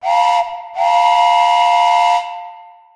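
A loud steam train whistle blows twice, a short blast then a longer one, with breathy hiss over steady tones that fade out at the end. No one speaks.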